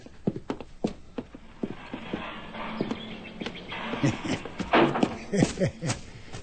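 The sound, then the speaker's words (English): Horse hooves clip-clop in an uneven series of sharp knocks, with some muffled voices and shuffling mixed in underneath. “Grandpa, what do we need a horse for?”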